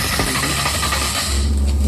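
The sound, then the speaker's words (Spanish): A wooden matraca ratchet is spun, giving a continuous, rapid clattering rattle with a harsh, buzzing texture that holds steady for about two seconds with no voices. “Les dejo la foto de la matraca para los que no conocen este infernal instrumento musical y torturador instrumento.”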